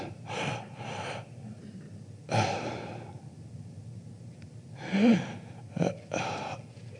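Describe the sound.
A voice imitates the heavy, labored breathing of a dying man in hospital: a series of loud, raspy breaths in and out, uneven in rhythm with pauses between, some catching like gasps and sighs, with no words.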